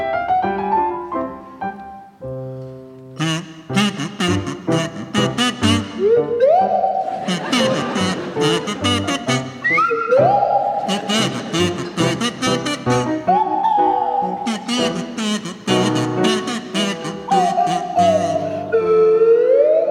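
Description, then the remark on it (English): Tony Hawks on a buzzy kazoo and Pippa Evans on a sliding swanee whistle play a rendition of the Pizzicato Polka from Sylvia, a bouncy tune with the whistle swooping up and down in repeated glides over a brisk, steady, plucky accompaniment. “Tony and Pippa, I'd like you to provide us with a rendition of the Pizzicato Polka from Sylvia by Dalid, to feature Tony Hawks on the kazoo and Pippa Evans on the Swanee Whistle.”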